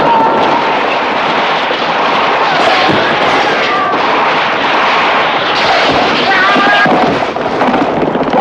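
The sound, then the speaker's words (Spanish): Scattered gunshots fired from the far bank of a frozen river crack through a loud, continuous roaring din of battle as a cavalry squadron charges across the ice, with a few sharper bursts standing out and what sounds like faint shouting mixed into the steady noise. “Desde la otra orilla disparan y algunos caballos ruedan por el hielo.”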